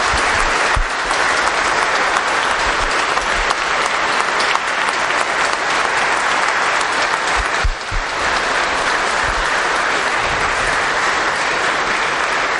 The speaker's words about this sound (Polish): Myślę, że tak, te brawa bardzo dużo mówią, to było nam potrzebne i mam nadzieję, że daje jakiś sygnał wielu osobom, które być może nas albo słuchają, albo oglądają.